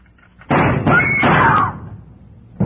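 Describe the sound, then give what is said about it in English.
A sharp metallic snap of a spring lock being released to open a door, followed by the door swinging open with a brief creak and rustle, fairly loud, then quiet before another knock-like thud at the end. “When Susan snapped the spring lock to open the door, the gun outside opened up.”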